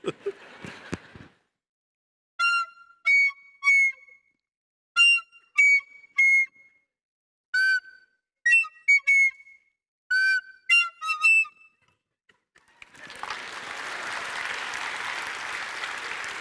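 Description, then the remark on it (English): A recorder plays Three Blind Mice in short, high, slightly breathy phrases of a few notes each, with pauses between, followed by a burst of steady applause. “Believe it or not, that was Three Blind Mice.”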